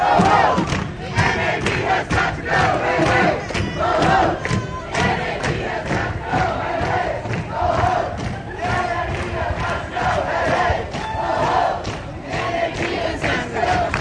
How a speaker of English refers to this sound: Okay, so there are now about 50 people piled up in front of the front doors of the NAB conference. You can hear people yelling in the background. There's a line of police and men in suits.